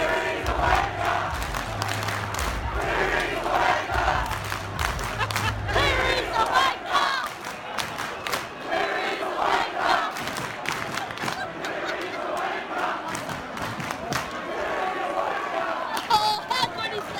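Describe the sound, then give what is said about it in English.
A huge stadium crowd at a rugby league match roars and cheers for about seventeen seconds, a dense wall of shouting voices that swells and surges throughout, with a low rumble underneath early on. “But a great performance by the Tigers and a great performance by the crowd. Have a listen to this.”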